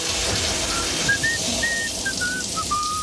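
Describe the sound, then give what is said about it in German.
Steady hiss of running shower water fills the whole stretch, constant, while someone whistles a short, wavering tune over it. No one speaks. “Am besten ja mit einer kleinen Dusche.”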